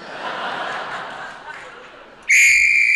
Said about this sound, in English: that's a danger whistle. It means the men in the tunnel are going to start blasting.